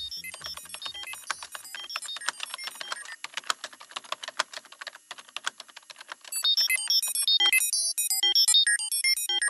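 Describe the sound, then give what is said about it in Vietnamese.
Rapid, dense typing with ten fingers on a computer keyboard in a computer lab clatters for several seconds, then gives way to a loud run of electronic beeps and chirping tones, like an alarm or computer signal. “Gõ tanh tách và uyển chuyển 10 ngón tay trên bàn phím,”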